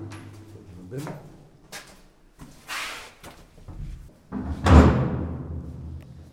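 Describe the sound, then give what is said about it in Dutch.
A heavy door of a fort is hauled open as visitors go inside, with scraping, rumbling movement and a loud, deep thud partway through, then a lingering rattle. Voices can be heard faintly around it. “Wij gaan nu binnengaan, ja. Maar wij hebben ook geen Duitse officier bij ons. Een zware deur.”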